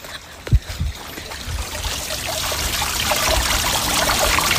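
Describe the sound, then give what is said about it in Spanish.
Water trickles and splashes steadily from a fountain on a farm estate, a continuous bright babble that grows slightly fuller over a few seconds, with a couple of low knocks near the start and no talking. “Vamos a escuchar el agua, un momentito.”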